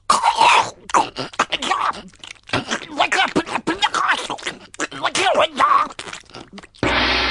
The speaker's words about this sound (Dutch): Onze geblinddoekte medewerker zal nu een hap nemen van de boterham met het bekende merk. Oh. Daar gaat hij.